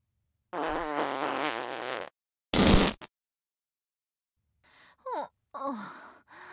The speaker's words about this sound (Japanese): 少しすっきりした。このボリュームのおならを部屋でするのは少し躊躇してたのよ。